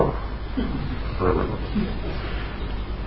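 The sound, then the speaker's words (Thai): Harsh growls and snarling roars from large wild animals, like lions and wolves fighting over a carcass, rumble continuously and fairly loudly, with rougher surges of roaring midway. “เป็นสัตว์ดุที่กำลังแย่งศพเคยดูคลิปไหมพวกเนี้ยเวลาพวกหมาป่ากับสิงโตมาแย่งศพมาแย่งซากมาแย่งเหยื่อไอ้สิงโตนี่มันไปได้กวางหรือไปได้ฮะแล้วก็ไอ้พวกสัตว์นี่มันก็จะมาเอาจะมาแย่งด้วย”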